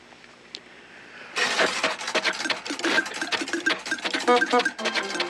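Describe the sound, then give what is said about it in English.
After a brief quiet moment, a comic cartoon car sound effect bursts in: a rapid, sputtering engine and popping exhaust with squeaky bulb-horn honks, loud, partly imitated by voices. Made live with syrup pitchers, a spring and an old bulb horn, one performer voicing the exhaust, another the motor and horn. “This adds up to Mickey's automobile. I'll be the exhaust, … will be the motor and the horn.”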